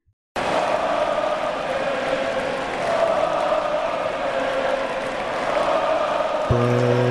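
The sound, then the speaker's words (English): A large arena crowd at Barclays Center in Brooklyn roars and cheers during a big Nets win, a steady, dense wall of noise that swells slightly, with a horn-like tone entering near the end. “Heard a lot of that last night at Barclays Center.”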